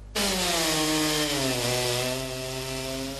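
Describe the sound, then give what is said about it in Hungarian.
A chainsaw roars steadily through wood as lumberjacks practise timed sawing for a world championship, its engine pitch sagging slightly as the blade bites deeper, loud with no talking. “Fűrészelnek kézzel, láncfűrészsel, mindezt időre.”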